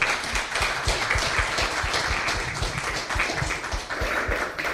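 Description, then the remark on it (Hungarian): An audience applauds steadily at the end of a talk in the Francesco Kávézó programme series, many hands clapping in a dense, continuous wash of sharp claps that holds at an even, fairly loud level for the whole stretch, with no talking over it. “Nagyon szépen köszönjük, egy nagy tapssal köszönjük meg.”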